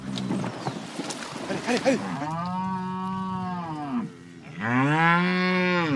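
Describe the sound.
Cattle moo in two long, loud, drawn-out calls, one after another, following a brief stretch of mixed noise and possible voices at the start; grass-fed cattle raised in the open on the Pampa plains, from a herd of 2,500 head.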